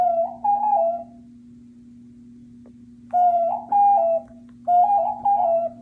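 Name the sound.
pigeon cooing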